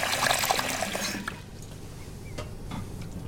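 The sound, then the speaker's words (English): Water runs from a tap into a shallow silver bowl in a sink in a garage as a man fills it, a bright splashing pour for about a second before easing into a softer trickle with a few small drips. “He places a shallow silver bowl in the sink and fills it with water.”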